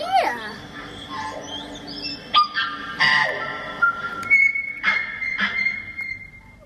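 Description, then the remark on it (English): A tui, a native New Zealand bird of the honeyeater family, calls with a varied string of liquid whistles, sharp clicks and twangy metallic notes, some held steady, some rising, continuing without pause. “All right, that was the tui.”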